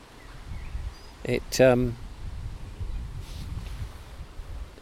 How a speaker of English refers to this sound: listening to the wind, I think you can hear the wind, it's going through the trees, it's quite a hiss. Although we're sheltered, I'm sheltered here, so there's not much wind on the microphone.